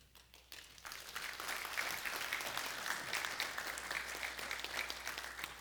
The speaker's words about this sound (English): I really wish you would not applaud when I stand up. It's just so humbling.